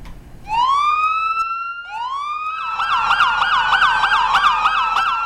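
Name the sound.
emergency siren wailing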